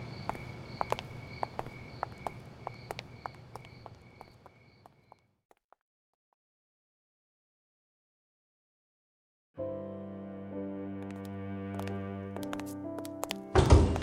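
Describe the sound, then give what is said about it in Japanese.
Footsteps tap along, then silence, before an elevator arrives with a steady mechanical hum and its doors slide open at the very end. No one speaks. “エレベーター来たよ、扉押さえてるから先に入って。”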